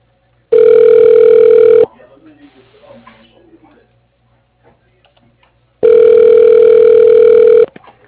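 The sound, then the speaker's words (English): A phone line rings twice while a call connects to Dynamix Freedom Plumbing: two long, loud, steady buzzing rings, each about a second and a half, with a quiet pause of several seconds between them. “You will now be connected to Dynamix Freedom Plumbing.”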